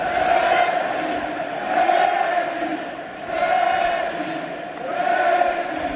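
A massive crowd filling the Camp Nou chants 'Messi' in unison in the 10th minute of a match, the loud roar swelling and falling in a steady two-beat rhythm that repeats about every second and a half.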